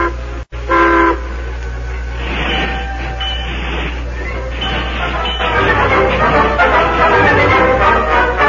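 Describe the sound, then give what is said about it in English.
A westbound train rumbles steadily along the track as it rolls on after a stop at Burkeville, a brief horn-like toot near the start, then the rolling clatter grows slightly louder and busier toward the end, with no talking. “Then the train rolled on.”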